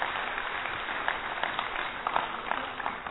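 A crowd applauds steadily, a dense, continuous patter of many hands clapping at an even level for the full few seconds, with a few sharper claps standing out near the end.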